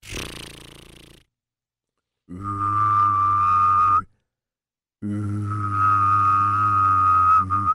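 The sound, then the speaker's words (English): A person hums a low steady note while whistling a clear high tone at the same time, in two sustained bursts of a couple of seconds each, after a short rough noise. “That is a hum and a whistle.”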